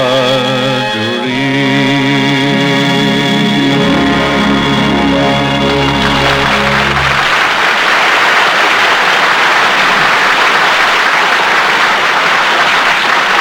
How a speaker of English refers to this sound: When the curtain comes down on a fine play, the applause is a clapping of hands.